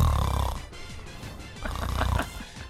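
Two rough, low snores from a person who has actually fallen asleep during a conversation, one at the start and another after a short pause, each a raspy rattling breath that fades out. No talking is heard.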